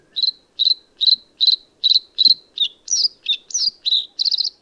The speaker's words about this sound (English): One of the most remarkable singers on the continent is the blue throat. Its long song meanders in trills, buzzes, and bell-like notes.